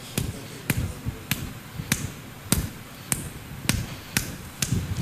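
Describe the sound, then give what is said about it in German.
A squeeze bottle of garlic sauce squirts in a steady run of short, sharp sputtering bursts, about nine in a row roughly half a second apart, with no talking. “Sie spritzt schon mal besser.”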